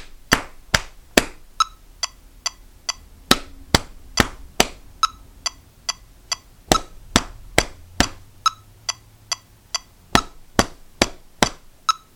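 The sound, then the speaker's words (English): A steady, fairly quick metronome set to 140 clicks on and on while sharp, crisp taps land right along with the beat, with no voices. “And make sure you're tapping right on the click, you know, like, if you're tapping so exact, like if you clap, you can't do this while driving, but if you clap, let me just demonstrate this, then your clap should be so on the mark that you actually”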